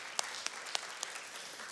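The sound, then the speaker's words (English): A church audience applauds during a sermon, after a line about the grace of God setting people free from sin: a steady wash of many hands clapping with a few sharper individual claps popping out above it. Brief and moderately loud, with no voices over it. “Yeah, we could clap for that.”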